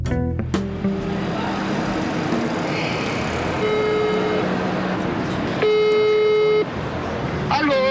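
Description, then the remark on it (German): Steady traffic noise on a busy street in front of the train station building in Nuremberg, cut by two sustained, harmonic horn blasts, the second louder and about a second long, with faint voices mixed into the rumble. “ich bin jetzt rausgegangen aus der Mittelhalle und stehe jetzt vor dem Bahnhofsgebäude.”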